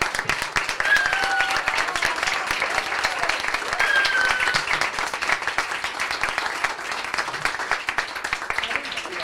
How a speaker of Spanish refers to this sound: Un aplauso para ellos.